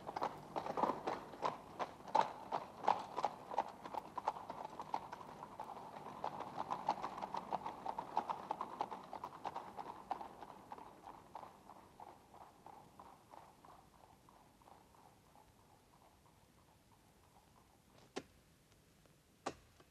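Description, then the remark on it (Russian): Horse-drawn carriages pull away, their steady clip-clopping hooves and rolling rumble loud at first, then fading gradually until only a couple of faint knocks remain. “Отъезжают экипажи.”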